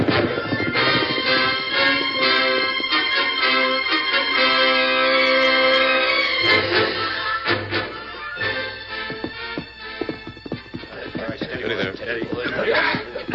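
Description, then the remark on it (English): Horses set off with a flurry of clattering hooves and a whinny as riders mount and ride off, busy, layered over a steady musical or tonal backdrop that grows more percussive toward the end. “All right, on your horses, let's ride.”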